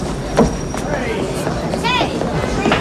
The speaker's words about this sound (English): Leo and Rhino run onto the platform just as their train pulls in.